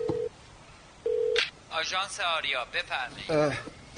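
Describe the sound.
A telephone number being dialed to call the Aria taxi agency, heard as two steady electronic phone tones with a short pause between them, followed by a voice talking over the line.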